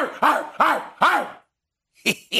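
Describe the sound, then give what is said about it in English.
A man's voice on television imitates a barking dog: three loud woofs in quick succession, a brief pause, then two shorter, sharper yelps. “They got this fool barking on television.”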